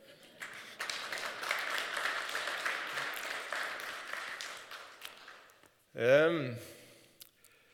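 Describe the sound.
About five seconds of steady, crackling applause from several people, moderately loud, fading out, followed by a short burst of voice.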